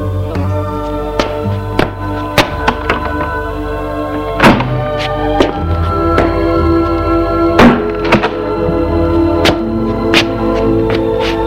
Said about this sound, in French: Elle ouvre la porte de l'allée pour le faire entrer.